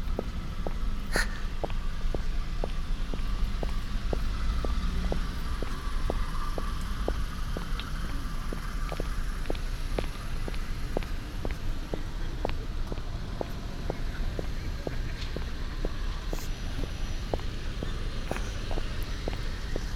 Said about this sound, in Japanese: 駅前の公園だからちょっと車の通り多いけどさ。